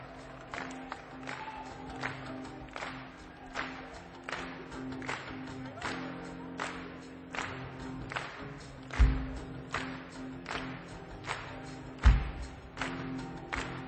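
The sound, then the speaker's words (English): A crowd at a show at Fish's Head claps along to the poem Crusoe in a steady, even rhythm, about two claps per second, keeping time throughout, with a low murmur of voices underneath and a couple of louder thumps near the end. “You can help me by clapping.”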